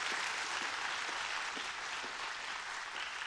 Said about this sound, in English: Can you guys give Shay a huge round of applause? Thank you so much.